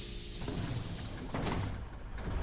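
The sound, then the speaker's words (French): Bus doors slide open with a pneumatic hiss and rumble as passengers get off, with a brief burst of air rising midway through over a steady low engine drone, moderately loud. “Les portes du bus s'ouvrent comme une libération.”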